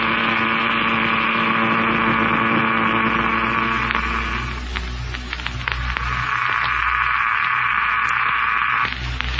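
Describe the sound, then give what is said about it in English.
A disintegrator machine drones steadily as it cuts into the ground, heard by radio through the transmitter in Buck's pressure suit as a loud electric hum with static crackle, easing briefly midway before surging back. No voices. “Seems strange to hear its sound coming to us by radio, though, through the transmitter in Buck's pressure suit.”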